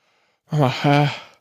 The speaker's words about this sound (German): So, ich habe es mal gerade demonstriert, beides gleichzeitig. Und einfach nur durch den Mund zu atmen und die Nase überhaupt nicht zu benutzen, das kann jeder auch mal selber ausprobieren, das ist nicht so leicht.